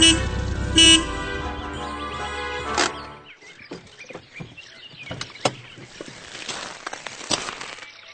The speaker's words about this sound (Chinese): 对不起，教授，听出了一辆行驶的汽车，或者听出那个人来到了乡下，这有什么难呀？